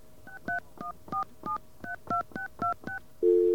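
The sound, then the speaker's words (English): A quick run of about ten touch-tone keypad beeps as a long-distance code is entered on a telephone, each a short two-pitched chirp at an uneven pace, followed by a louder steady telephone tone that starts abruptly at the end. “I'll enter a long-distance code and see if that makes it happy.”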